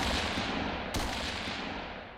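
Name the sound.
gunfire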